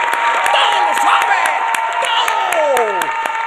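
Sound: crowd applauding and cheering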